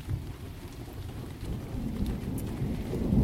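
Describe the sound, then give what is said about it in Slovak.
Steady rain pours down with a deep, low thunder rumble rolling underneath, swelling louder toward the end; no voices, just the storm filling the space. “Vidíme naše tisícnásobné zrkadlo a stávame sa súčasťou jednej veľkej búrky.”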